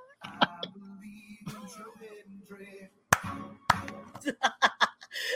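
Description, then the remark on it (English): A cat-fight sound effect played from a soundboard, with drawn-out yowls and wailing cries broken by sharp, loud bursts of screeching and spitting that grow more frantic toward the end. “I got cats fighting at the wrong soundboard.”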